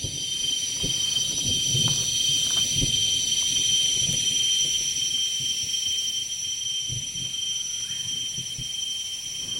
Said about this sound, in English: A storm is coming through, and as the storm approaches, the insects and birds quiet down. As the storm quickly passes, they reemerge, and the birds you hear are ashy tailor birds, hornbills, white-crested hornbills.